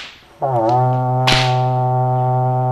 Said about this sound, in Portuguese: Cuidado, hein? A moça sabe estalar um chicote. E bem.